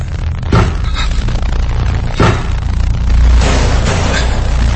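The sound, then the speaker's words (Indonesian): Heavy pounding from outside on a wooden bedroom window that faces a river: a few loud, low, booming thuds at irregular intervals, the last one longer and rougher, over a dull rumbling background with no voices. “Suara gedoran jendela itu pun disertai suara geraman yang sangat menakutkan.”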